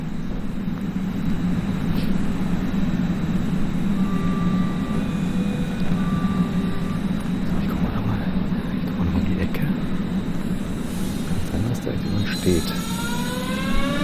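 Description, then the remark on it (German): An S-Bahn commuter train pulls out with a steady, fairly loud low rumble, while electric motor whines climb in pitch toward the end as it gathers speed. “Ja, ich warte mal noch, bis die S-Bahn weggefahren ist.”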